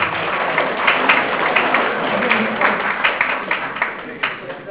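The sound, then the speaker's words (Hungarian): A crowd applauds steadily at a ceremony honouring blood donors, a dense wash of many hands clapping at an even loudness with scattered sharper claps standing out, continuing through the whole stretch without a break. “neki is szeretném kérni egy nagy tapsot.”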